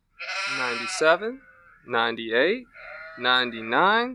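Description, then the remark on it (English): Three loud sheep bleats with a wavering, quavering tone, each lasting about a second and separated by short pauses. “I best be gathering my sheep and heading back home. Here, sheepy, sheepy, sheepy.”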